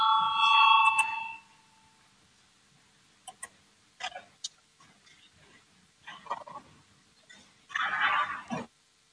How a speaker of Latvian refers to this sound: Lūdzu, zvanu, balsosim par 128. deputāta Valēņa priekšlikumu.